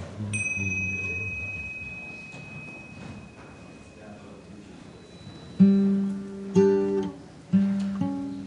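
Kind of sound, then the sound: signal or alarm, chime ringing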